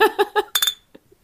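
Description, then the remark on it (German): Glasses clink together in a toast: a quick cluster of bright, ringing taps, just after a few short voiced bursts, then a faint tap as things settle. “Cheers. Prost.”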